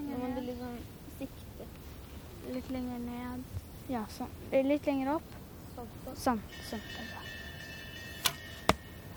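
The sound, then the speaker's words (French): Voices chatter, then near the end two sharp, crisp impacts ring out a moment apart as arrows loosed from a bow strike the target within the scoring rings during an archery event, with a faint ringing tone lingering. “qui touche encore la cible et là elle est dans les points.”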